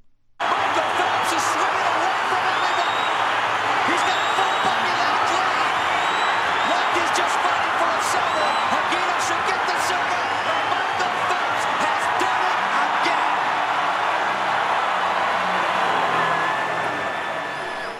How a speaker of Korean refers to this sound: 관중들의 함성 속에 현장 열기가 느껴지는데요. 펠프스 선수가 개인 혼영 200m에서 우승하는 순간을 올림픽 주간방송사 MBC 중계로 들으셨습니다.